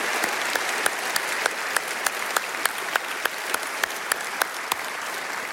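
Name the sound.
church audience applauding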